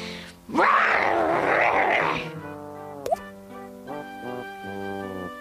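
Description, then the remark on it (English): A single loud, raspy growl like a grumpy lion, roughly two seconds long and made by a clown's voice, followed by soft, steady musical tones. “I don't growl or snarl for circus sakes. That was pretty growly, wasn't it?”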